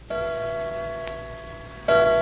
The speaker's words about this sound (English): It's 2 o'clock in the morning. And all we can hear are the customary sounds of night. The grandfather's clock in the hall